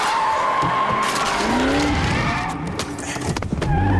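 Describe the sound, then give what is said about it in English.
A car swerves to avoid several deer running in front of it, tires screeching as it skids loudly into a spin, engine roaring beneath the squeal. Sustained, with brief impacts near the end as it hits a line of bollards, and no voices. “Several deer run in front of the car and Robert swerves. The car spins into a line of bollards.”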